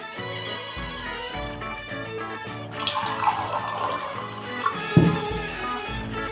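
Water pours steadily from a small bottle into a glass, starting partway through and running for a few seconds with a couple of small knocks, over soft background music.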